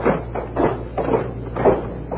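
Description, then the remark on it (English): CBS studio doors closing one after another for the weekend in a regular Friday closing door ceremony, a run of four or five dull, muffled thuds in a loose rhythm over a steady low hum, with no voices. “Just time for our closing door ceremony, a regular Friday feature here at CBS.”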